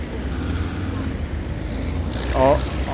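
Four very large military mobile missile-system vehicles with roaring diesel engines rumble past in a continuous, loud low-frequency drone, with a brief higher whine rising near the end.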